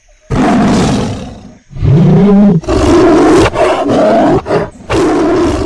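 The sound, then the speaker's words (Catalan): A lion roars over and over while pacing around a cave, loud, a string of deep, rough bellows separated by short breaths, with no voices present. “Es va empipar tant i tant que va començar a donar voltes per la cova rugint sense parar.”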